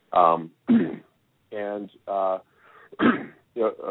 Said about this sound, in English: Pardon me, I'm coughing a little bit tonight. I've got a bit of a sore throat, but I'm going to do the best I can tonight.